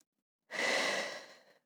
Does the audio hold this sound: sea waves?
no